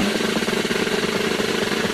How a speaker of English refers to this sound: drum roll, please.